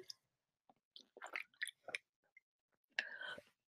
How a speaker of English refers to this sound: And I'm going to take a big swig of water.